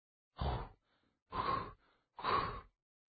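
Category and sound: human body sound, heavy panting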